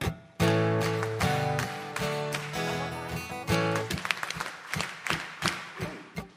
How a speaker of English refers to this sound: You see those little asterisks in the bracket? It's meant to be your clapping. Okay, so you're meant to do it something like this. Try the clapping. Okay, we'll try it together. Ready? 1, 2, 3.